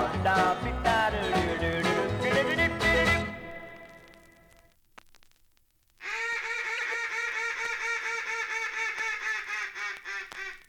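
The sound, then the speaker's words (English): Music fades out, and after a short pause a mallard duck call, blown by hand on a wooden Falk's duck call, sounds a long, steady run of loud, nasal quacks in a quick, even rhythm. “You have just heard a mallard duck call blown on a Falk's duck call”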